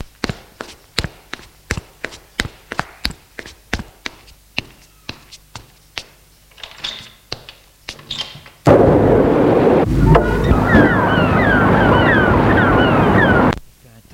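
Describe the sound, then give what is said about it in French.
A run of sharp, regular thumps gives way abruptly to a loud, roaring blast of strong wind gusts on a path along the coast, rushing for several seconds, then cutting off suddenly. No one speaks. “Avec des rafales de vent.”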